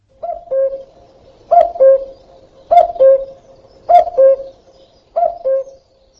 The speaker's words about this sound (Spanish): ¿Cuántas veces oigas al cuco haciendo cucú, tantos años más vivirás? Si escuchas al cuco cantando y tienes dinero en el bolsillo, no sufrirás escasez durante todo el año.